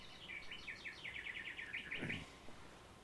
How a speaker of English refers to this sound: Oh, there's your bird clock. Must be.